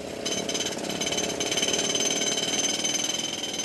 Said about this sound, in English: The miners start up their aging Chinese drill and bore next to the blue spot in search of a lapis bed.